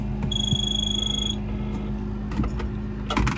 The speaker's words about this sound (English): Then the ringing phone should. Except, well, it doesn't. Why? Since when does a phone in this country ring like that? Why?